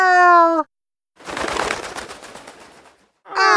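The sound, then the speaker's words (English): Pigeons coo in two short, bright bursts at the start and end, separated by a brief silence and a fluttering, rustling stretch like flapping wings. Loud, with no talking. “They had 13 sandwiches. The birds stole 8.”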